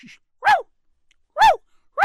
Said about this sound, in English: Leave that dog. We've got a little doggy here.